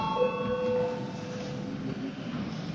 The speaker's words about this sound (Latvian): Lūdzu, zvanu.